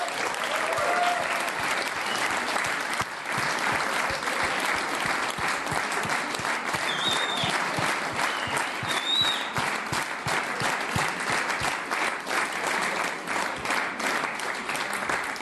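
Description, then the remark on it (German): Sustained, steady applause from a large crowd for the Care team at the Jubiku, dense clapping at an even loudness throughout with a few faint cheers or whistles rising above it. “Und könnt der Rest einmal wirklich einen ganz kräftigen Applaus diesen Leuten geben?”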